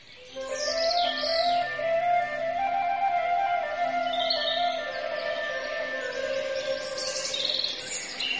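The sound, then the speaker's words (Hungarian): A bird sings a continuous, melodic song, with sustained whistling tones and bright high chirps layered over them. It carries on steadily for several seconds, fairly loud, with no talking. “Egy fűszállal megcsiklandozza az alvó madár csődét. Nótát kérünk!”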